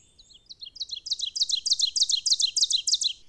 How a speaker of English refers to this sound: It's conspicuous enough that Robert Frost's poem, The Oven Bird, is entirely about the song. The poem begins, "There is a singer everyone has heard, loud, a midsummer and a midwood bird who makes the solid tree trunk sound again."